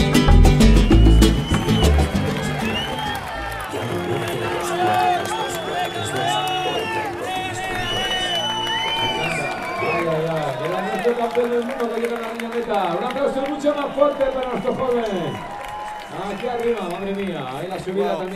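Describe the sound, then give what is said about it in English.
A roadside crowd cheers and applauds for Nairo Quintana, who attacked going over the top of the climb, with a loud burst of clapping and noise at the start, then a steady wash of shouting and whooping voices that carries on throughout. “that cheering, that ripple of applause there was initially for Nairo Quintana, who attacked going over the top of the climb, and he's got a little bit of gap, but then the cheering got louder and more intense and more enthusiastic”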